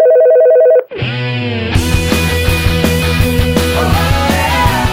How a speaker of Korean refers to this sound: 전화 왔어요. 전화 받아주세요.